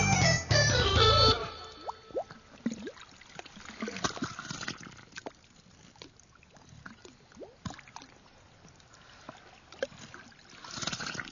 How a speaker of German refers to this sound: Das Meer im Hafen von Sydney in einer Radiokomposition von Rick Rue, heute im Kunstradio